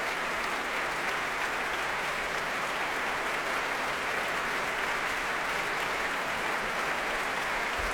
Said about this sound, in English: Here it comes again, applauding the orchestra.